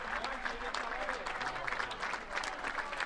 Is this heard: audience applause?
yes